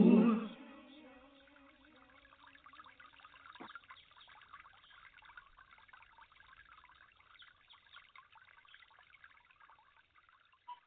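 Water trickles and pours in a steady, burbling stream that stays fairly quiet throughout, following a brief louder tonal sound at the very start.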